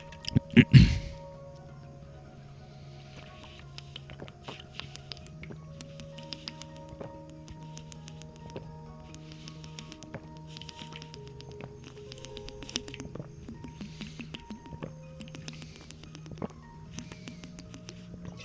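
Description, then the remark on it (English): A sharp thump, then scattered soft crinkles and small taps as a water bottle is picked up and handled, over a steady low electrical hum. “I have a water somewhere. Boom. A water. A bottle of water.”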